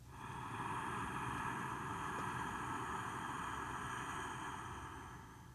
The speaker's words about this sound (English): As you breathe in and out like that, it will sound like the ocean. One more time, breathe in.